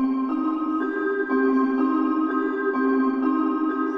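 Piano notes played at a steady, unhurried pace, each one ringing into a long, washy reverb tail that blends the tones together into a sustained, even-level wash of sound with no voices.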